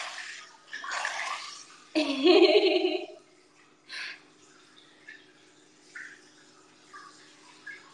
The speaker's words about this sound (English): Why do I hear water? I'm in onsen.